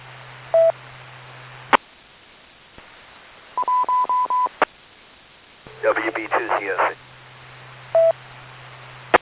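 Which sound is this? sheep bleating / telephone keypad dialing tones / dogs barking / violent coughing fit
telephone keypad dialing tones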